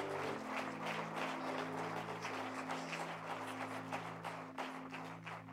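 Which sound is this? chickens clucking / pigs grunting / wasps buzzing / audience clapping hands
audience clapping hands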